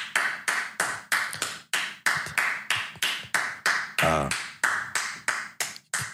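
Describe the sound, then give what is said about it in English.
People clap in a steady, even rhythm, roughly fifteen sharp, bright claps in a row with no talking, broken once midway by a short voiced burst. “Can you stop clapping?”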